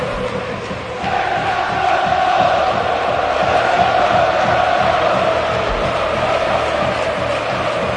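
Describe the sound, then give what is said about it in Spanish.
A large crowd at the Calderón stadium chants in unison as a tribute to Fernando Torres in the 9th minute of a match, voices swelling into a loud, sustained roar with rhythmic clapping underneath, steady throughout and heard from within the stands. “Es mayoritario el grito en el estadio, ¿eh?”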